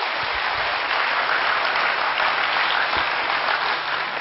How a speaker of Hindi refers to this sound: आप जोर से तालियां बजाइए।